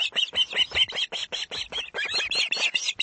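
An osprey gives a rapid, continuous series of loud, high-pitched whistled chirps, with short calls following one another in quick succession throughout, as it delivers a fresh catch to its mate and chicks.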